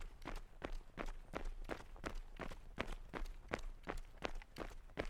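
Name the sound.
running footsteps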